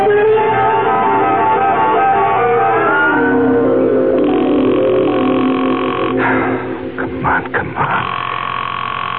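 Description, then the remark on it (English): A telephone is dialed and then rings, its steady electronic tones sounding muffled and narrow, with a busy murmur of background noise beneath. “Answer the phone.”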